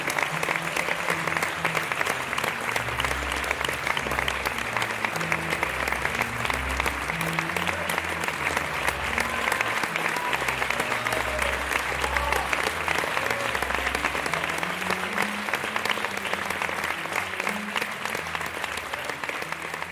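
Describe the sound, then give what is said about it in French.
Sustained applause from a show audience, a dense wash of many hands clapping steadily and loudly for the full stretch, with faint low murmurs underneath and a slight easing near the end. “Bien évidemment, on m'a interdit d'enregistrer le spectacle, mais je vous ai quand même ramené mes applaudissements.”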